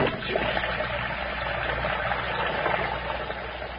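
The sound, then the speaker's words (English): A tap turned on full blast runs hard and steady while flower stems are snipped, a dense, continuous rush of water that stays at the same loud level throughout, with no voices. “turns the water on full blast as she snips the stems of her flowers with unusual vigor.”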